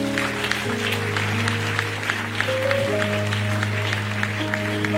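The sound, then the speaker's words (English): A church audience claps for Jesus during a sermon, in a steady, continuous patter for several seconds, over sustained low keyboard chords that shift pitch partway through. No one speaks. “Can you clap for Jesus?”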